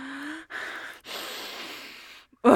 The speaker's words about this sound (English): Does your cock smell that way too? Let me sniff my hand.